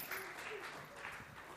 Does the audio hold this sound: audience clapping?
yes